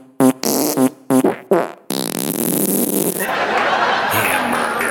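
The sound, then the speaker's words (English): A comedian on stage blows four or five short, buzzy fart-like raspberries in quick succession, loud, as an impression of a rapper and Tiffany Flanders' first date as farts, then a sustained wash of loud crowd noise takes over. “Here's an impression of their first date. If they were both farts.”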